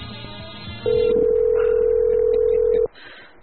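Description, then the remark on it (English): After a brief muffled rustle as a woman hangs up the phone call, a loud, steady dial tone drones for about two seconds, then abruptly stops. No one speaks. “Who is that woman who just hung up the phone on me?”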